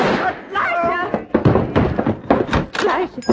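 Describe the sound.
A rapid series of loud, sharp gunshots cracks out, several blasts in quick irregular succession, close and punchy, with a tense commotion of voices beneath them.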